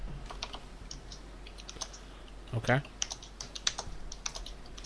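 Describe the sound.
Steady clicking of keys on a computer keyboard, quick irregular taps at moderate volume throughout, with a brief spoken word partway through.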